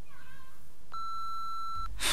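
A single steady electronic beep of about one second, clear and fairly loud, from a telephone answering machine after its greeting asking the caller to leave a message, ending in a sudden burst of hiss or a click.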